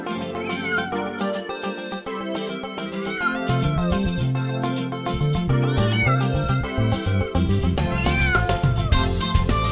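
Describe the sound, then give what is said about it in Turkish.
Repeated cat meows rise and fall over loud, busy music with a steady beat, recurring every few seconds and mixed in with the instruments. “Seveyim seni ben, miyav miyav diyerek yaklaşıp ver bana sen.”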